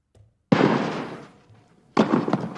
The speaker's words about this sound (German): Wow! So, das waren jetzt keine Schüsse, sondern ein symbolisiertes Tennisturnier und das ist mein neuer Jingle fürs Aktienturnier.